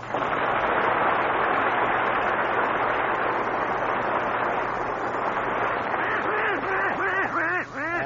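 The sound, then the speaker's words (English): The cartoon voice of Donald Duck quacks and squawks in a rapid, garbled stream, loud, ending in a series of distinct bouncing quacks. No other voices are heard. “Donald Duck.”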